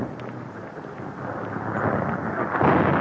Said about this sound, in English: I think you can hear that bomber. There's some distant guns on the outskirts. Yes, he's coming. There are the guns.